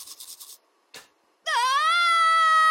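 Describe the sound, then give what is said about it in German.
Quick rhythmic scrubbing of a toothbrush as someone brushes their teeth, a short wet burst, then a loud, sustained, high-pitched scream that swoops up and holds steady until the end. “Mit Schreien stoppst du kein Zahnfleischbluten.”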